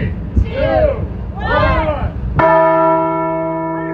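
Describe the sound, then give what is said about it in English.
A crowd murmurs indistinctly at a traveling Arizona history museum exhibit, then a large replica Liberty Bell is struck once, loud, its deep metallic tone ringing on and slowly fading over the background chatter. “In the middle sits a large replica Liberty Bell, usually only seen in front of the Arizona Capitol.”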